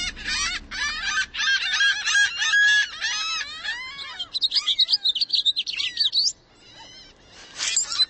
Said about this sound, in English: Not to mention, while driving a car, you can't just relax and tune in to the birds all around you.